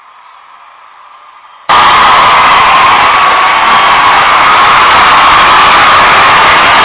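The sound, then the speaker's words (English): A low, thin hiss gives way abruptly to a loud, sustained roar of a crowd yelling, screaming and cheering, a dense wall of voices that holds steady to the end. “And I know a lot of you are yelling and screaming and happy and celebrating right now, but the replacement refs are now gone.”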